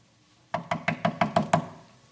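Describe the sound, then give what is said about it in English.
Six quick, evenly spaced sharp raps on a door in a steady rhythm lasting about a second, with nobody talking. “watch Jesus standing at their door and knocking”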